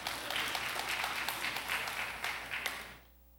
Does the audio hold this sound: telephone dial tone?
no